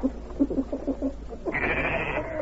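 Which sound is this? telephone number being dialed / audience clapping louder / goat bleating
goat bleating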